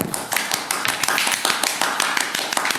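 Audience applause for the winner of a game round: a steady patter of many overlapping hand claps, fairly loud and even throughout, with no clear rhythm and no voices on top.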